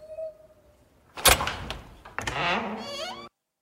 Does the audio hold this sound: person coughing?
no